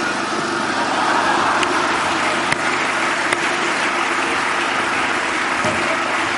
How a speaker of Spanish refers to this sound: ¿Por qué no? ¿Qué ley incumplo? Es una máquina industrial.